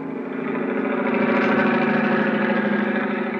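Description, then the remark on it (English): A steady, loud engine drone throbs continuously with a low, pulsing rhythm, a helicopter engine on a flight out to sea from Cape Town, South Africa, with no voices over it. “I don't know which was throbbing the most, the helicopter engine or my head.”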